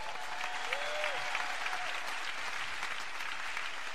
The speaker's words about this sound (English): Tonight, one of our guests is the founder of the Center for Media Justice, Malkia Cyril. Give Malkia a round of applause.